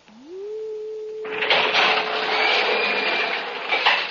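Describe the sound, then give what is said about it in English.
In a Flash Gordon story, a door is unlocked from the outside with a special light key that cuts the alarm, then opened: a low electronic hum rises in pitch and holds steady, then a loud, broad airy hiss sweeps in over it and continues to the end. “I have the special light key that will cut the alarm from the outside. I am opening the door to come in.”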